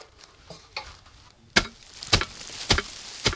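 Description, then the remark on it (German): A thatcher on a ladder knocks moss off a reed roof with a knocking board: several faint scrapes and taps, then four loud, sharp thwacks at uneven intervals, with rustling between them and no voices. “Gerade steigt ein Reetdachdecker auf einer Leiter nach oben und entfernt mit einem Klopfbrett das Moos.”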